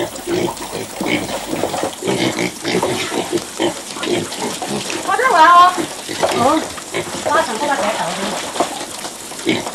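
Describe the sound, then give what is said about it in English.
A crowd of 16 piglets, raised for sale, grunting and squealing, with sharp high squeals rising midway over a steady bed of snuffling and shuffling, plus a hint of watery splashing. “A superb housewife, she takes care of 16 piglets born to sell in style.”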